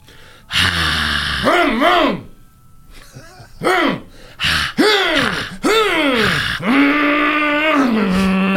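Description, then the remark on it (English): A lone voice imitates a crowd screaming at an old racetrack on a Saturday night, with a string of loud, wavering shrieks that rise and fall in pitch, about six bursts with short gaps, ending in a long sustained wail. “One day, you drive past that old track where people used to line up on a Saturday night, engines roaring, crowd screaming, do a crowd screaming sound.”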